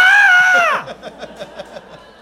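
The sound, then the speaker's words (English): A loud, strained cartoonish yell voiced by a person as a cartoon character's dying yell, held for under a second before its pitch drops away, followed by a run of short rhythmic laughs. “Are you sure the studio's okay with you doing that yell?”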